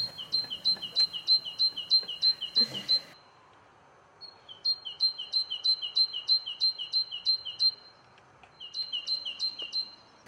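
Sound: bird song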